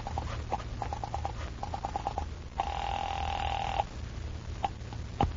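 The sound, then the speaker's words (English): A telephone call being placed from an office to the guard at the main gate: rapid short beeps, then a single sustained ringing tone heard through the line, with a steady low hum underneath and no voices. “You wait another half minute, and then pick up the phone and call the guard at the gate.”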